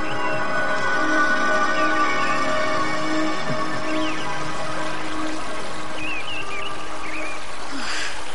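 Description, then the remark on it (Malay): A small river, not far from the gate of a royal city, flows steadily with a continuous, even rush of water, fairly loud, while a few faint bird chirps come through in the background. No one speaks. “Cempaka yang berada di luar kota raja kini tiba di pinggir sebuah sungai kecil”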